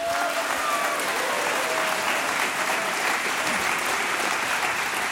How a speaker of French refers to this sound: Applaudissements.